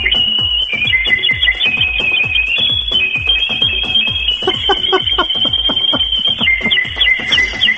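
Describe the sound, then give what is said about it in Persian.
A person imitates a nightingale's song with a loud, unbroken high-pitched warbling whistle that shifts between rapid trills. A steady rhythmic low thumping runs underneath throughout. “به به به به چه نفسی هم داره بلبله، ماشالله.”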